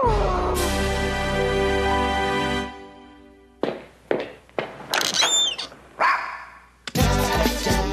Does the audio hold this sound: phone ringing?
no